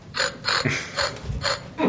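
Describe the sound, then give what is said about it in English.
A game show buzzer on Only 60 Seconds, one of the distinct buzzers that identify each player, sounds as a series of short, harsh, rattling bursts, about five in quick uneven rhythm, fairly loud, with no talking over them. “Each of our players will be able to be identified by their different buzzers.”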